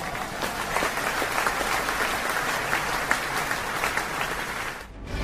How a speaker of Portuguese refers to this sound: uma salva de palmas, por favor, editor.